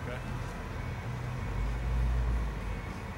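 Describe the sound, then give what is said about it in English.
A car creeps slowly into a driveway, its engine a steady low rumble heard from inside the vehicle, swelling slightly midway before settling again. “I start pulling in.”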